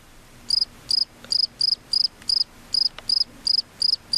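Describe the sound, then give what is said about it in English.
Steady cricket chirping, a high trilling pulse repeating about twice per second, clear over a faint low hum, with no voices. “No, you're supposed to cut the music, not the crickets.”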